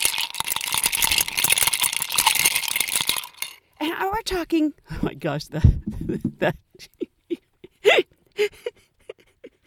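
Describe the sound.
Ice cubes rattle and clink rapidly and continuously as a woman stirs her drink of Bailey's and vodka on the rocks for a few seconds, loud and bright, then stop as someone begins talking excitedly.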